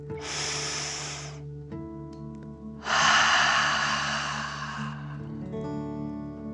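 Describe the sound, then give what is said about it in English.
An airy breath drawn in through the nose over about a second, then after a short pause a longer, forceful whooshing exhale through the mouth like breathing fire, a relaxing deep breath, with a soft sustained tone humming underneath. “Breathe in through your nose, filling up your belly, and then out through your mouth, pretending you are breathing fire. Ready? Deep breath in and out.”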